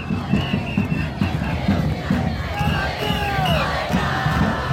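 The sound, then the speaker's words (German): A huge protest crowd of hundreds of thousands in central Buenos Aires chants in unison against austerity and for education funding, a dense roar of many voices rising and falling in steady rhythmic bursts, with scattered shouts and whistles cutting through. “Wir werden für unser Bildungswesen kämpfen, schallt es deswegen aus hunderttausenden Kehlen im Zentrum von Buenos Aires.”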